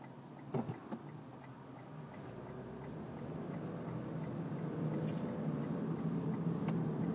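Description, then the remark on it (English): Steady low road rumble from inside a moving car, growing slightly louder over time, with a few sharp clicks near the start and no one talking. “Of course, I probably look like the same brand of lunatic here talking in my car.”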